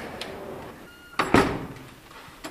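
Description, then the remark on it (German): A door opens as people walk into a convent: a short metallic latch click followed by a brief rattling swing, with faint clicks before and after against a quiet background. No one speaks. “Gut, dann gehen wir jetzt rein.”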